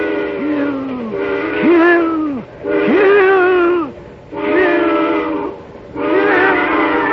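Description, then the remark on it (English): A train whistle shrieks in five long, loud blasts, each sliding up in pitch at the start before holding a piercing, chord-like tone, with short gaps between them. “And then as the eerie shriek of the train whistle suddenly blasts into his ears, a new thought is wedded to it.”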